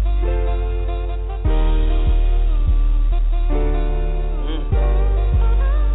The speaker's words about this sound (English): I'm gonna just let the beat breathe a little bit. You dig?